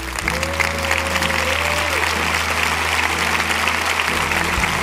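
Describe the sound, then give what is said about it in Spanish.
A crowd claps steadily in sustained applause, a dense and fairly loud wash of hand claps that continues for several seconds, with a low hum and a brief tonal glide underneath. “Deles ese aplauso.”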